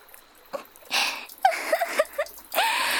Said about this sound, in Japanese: 本当にやっちゃった。黄色く濁ったおしっこが澄んだ川に混じっちゃって汚しちゃってる。